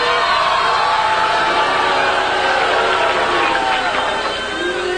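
A studio audience on the game show The Price is Right boos a contestant loudly and steadily, a dense crowd roar of many voices that holds for the full few seconds with no single speaker standing out.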